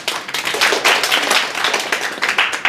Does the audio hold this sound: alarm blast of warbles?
no